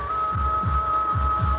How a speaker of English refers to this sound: That's not thunder. My own heart. Heart beating.